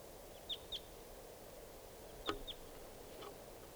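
A flock of four wild birds sitting on top of the approach tree gives a handful of short, high-pitched calls, about five sharp chirps scattered irregularly over a steady hiss of background noise, with no voices.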